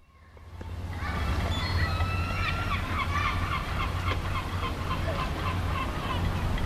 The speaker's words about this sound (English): It's a familiar sound in towns and cities across Wales, but there's something about Cardiff that seagulls really like. According to gull expert Peter Rock, there's now more than 6,000 of the birds in our capital city